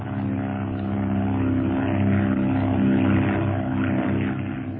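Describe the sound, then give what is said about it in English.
A propeller airplane engine drones steadily and loudly in flight as the plane climbs through clouds, with a dense low hum and layered harmonics that swell slightly midway through, no voices present. “Yes, but how can I from a plane like this?”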